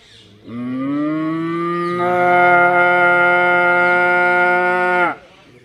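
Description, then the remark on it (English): A cow in a group of cows lets out a long, drawn-out moo, loud, swelling stronger partway through and holding steady for several seconds before cutting off, with no one talking. “And all the cows are doing Rambamana. You know Rambamana? Rambamana means all the cows are going.”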